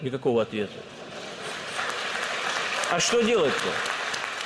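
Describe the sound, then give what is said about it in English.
Steady applause from a large crowd for Putin's remarks on bombing targets, a dense, continuous clatter of clapping that rises slightly and holds, with brief voices audible at the start and again midway through. “And that applause is reflected in the polls.”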